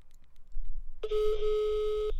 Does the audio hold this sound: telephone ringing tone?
yes